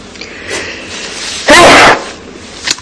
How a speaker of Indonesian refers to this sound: Alhamdulillah. Ingat kalau ada orang bersin, dia mengatakan alhamdulillah, didoakan yarhamukallah.